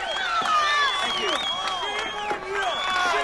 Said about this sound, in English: Yeah, so shame on you. Yeah, shame on you. They're yelling at the House Speaker from Janesville and cut the mic pretty soon after that. So you can get a pretty good sampling there of the situation facing Paul Ryan.